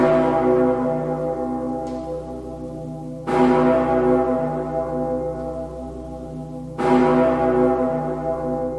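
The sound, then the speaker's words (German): A huge, deep cathedral bell tolls three times at slow, even intervals, each loud strike blooming into a rich humming drone that lingers and overlaps the next. No voices are heard. “Und der dicke Pitter, der klingt schon wirklich sensationell ausgewogen und laut.”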